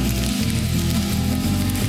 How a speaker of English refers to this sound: The other day, I heard a voice laughing as we were banging on his front door, saying, come on down, we got the fire crackling.